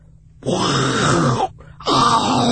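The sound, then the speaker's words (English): A man's voice imitates a lion's roar in two long, gravelly, throaty bursts, loud and rasping, with a short pause between them and no other talk. “It's going to be me looking at the camera going, roar.”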